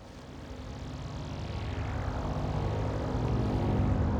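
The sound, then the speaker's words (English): A vehicle engine drones steadily as it drives through the desert, a low continuous rumble with a rising, rushing hiss that grows gradually louder over a few seconds, with no voices. “During this time, there was no light available to the lenses, and the only recorded sounds were the vehicle's engine and a dog breathing loudly.”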